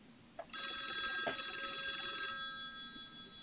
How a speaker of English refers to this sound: And there's the phone. We haven't heard the cheesy phone in quite a while.